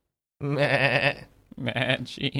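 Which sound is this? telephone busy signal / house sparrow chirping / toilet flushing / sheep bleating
sheep bleating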